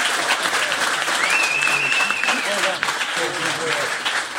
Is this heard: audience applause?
yes